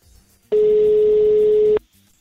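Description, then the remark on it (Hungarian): A single steady ringback tone on an outgoing phone call, one loud electronic hum lasting just over a second, starting and stopping abruptly with quiet around it and no talking. “Ja, itt van már hogy csörög.”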